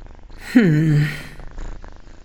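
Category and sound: animal, cats purring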